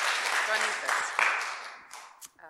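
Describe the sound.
A crowd applauds with dense, steady clapping that holds for about two seconds, then thins out and fades away, with a brief voice or cheer mixed in early on.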